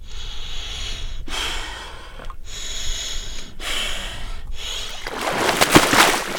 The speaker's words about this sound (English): … lowers into the water. You can feel the coldness through her breathing.